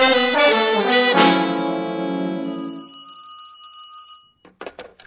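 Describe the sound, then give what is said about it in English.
A telephone rings loud with a bright, metallic bell tone, a brief trill and then one long ring that slowly fades, followed by a few soft clicks. “I need to use the house phone over there.”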